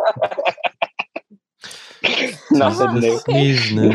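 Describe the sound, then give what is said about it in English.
A quick run of short, sharp breathy bursts, then loud, drawn-out sneezing sounds with strained, voiced tails, heard with no speech over them. “This is pretty helpful to kind of know 'tis the sneezing.”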